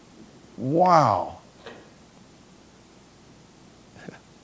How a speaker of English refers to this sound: It's raining hard, man. It's raining harder.